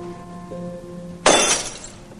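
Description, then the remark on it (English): A wine glass is lifted shoulder high and slung down, shattering in one sudden, loud, bright crash, followed by a short scatter of tinkling fragments over a quiet background with a faint steady hum. “Ellen glares at the broken glass and darts out of the house.”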